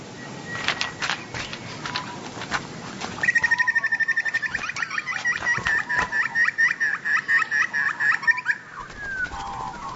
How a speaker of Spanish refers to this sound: Graznido de un pájaro en una rama.